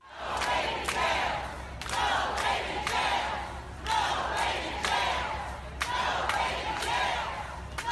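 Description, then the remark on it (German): A large crowd at a protest march in Houston, Texas, USA, against the Trump administration's migration policy chants a slogan against jails for toddlers in unison. Loud repeated bursts of shouting rise and fall in a steady rhythm, roughly every second or so, over a constant low rumble. “Keine Gefängnisse für Kleinkinder, skandieren diese Teilnehmenden.”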